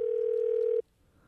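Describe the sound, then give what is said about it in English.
A phone ringback tone sounds once, a steady electronic hum lasting under a second before cutting off into near silence, like a call ringing on the line with no answer. “No one just sits around the house anymore just answering their phone.”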